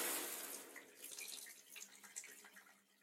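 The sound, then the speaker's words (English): Shower water runs in a steady, hissing spray with small splashes and patters, fairly soft, with no voices. “Anyway, I'll stop being so gross and go hop in the shower.”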